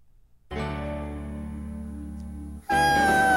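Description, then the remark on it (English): A person imitates whale sounds with a long, steady, low moaning hum that abruptly jumps to a louder, higher, brighter wail near the end. No words are spoken. “I'll do whale sounds”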